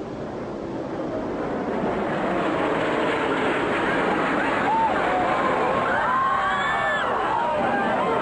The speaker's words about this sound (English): people turned on their televisions and watched in horror as United Flight 175 hurtled towards the South Tower. We've seen it from the front angle before, but not from this angle.